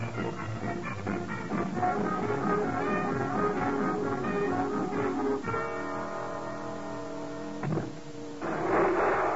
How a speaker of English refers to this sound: And now I think I hear Oogie driving up. I know I hear him.